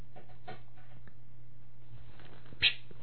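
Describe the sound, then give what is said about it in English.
A cat digging, heard as faint, irregular scratching and rustling over a steady low hum, with one sharper, louder scrape near the end. No one speaks. “Hold on, the cat is digging her.”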